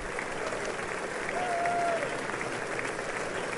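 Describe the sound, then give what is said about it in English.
A large audience applauds steadily for several seconds as a speaker steps up onto a small box to speak, a dense wash of clapping with no break, slightly muffled, with a faint murmur of voices underneath. “Clap, clap, clap.”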